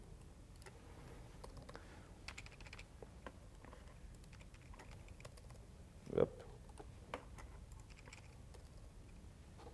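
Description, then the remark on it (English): Steady, fairly quiet typing on one of two computer keyboards attached to a computer running unmodified GNOME, with rapid irregular clicks throughout, one louder clack near the end, and a brief spoken word. “I have one keyboard that can type in here.”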